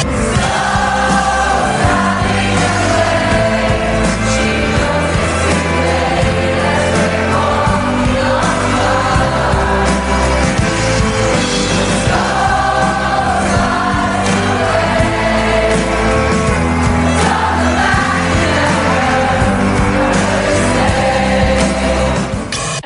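A choir and a huge crowd sing together in unison, a dense wall of sustained voices holding steady melodic lines at a constant loud level for the whole stretch, with no speech over it.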